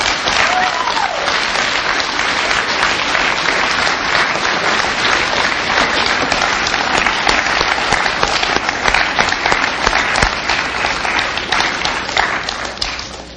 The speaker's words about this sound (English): Can we have another round of applause for both speakers?